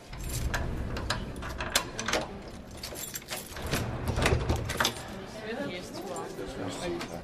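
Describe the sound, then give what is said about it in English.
Heavy doors of the Bolshoi Theatre in Moscow swing open with a run of mechanical clunks, rattles and creaks, steady over several seconds, while faint voices murmur in the background. “The doors to the Bolshoi Theatre.”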